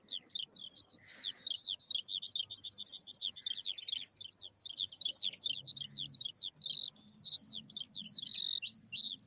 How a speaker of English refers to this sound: But then, up in the tree, the birds start to sing. They sing so beautifully that Bod, Frank, Barleymow, P.C. Copper, and Aunt Flo listen spellbound.